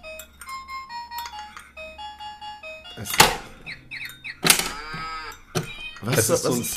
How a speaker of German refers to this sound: Das ist ein Plastik-Bauernhaus, ja, wo du so unten auf so Knöpfe drücken kannst und dann gehen so Türen auf und dann kommt halt der Bauer raus, ja, oder das Pferd oder die Kuh oder der Hund.